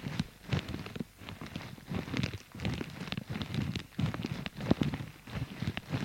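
Footsteps crunch through dry, dead autumn leaves at a steady walking pace on a chilly day, each step a crackling rustle, with no voices.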